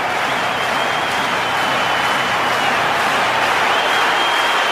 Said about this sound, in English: With England fans moved to applaud behind the goal.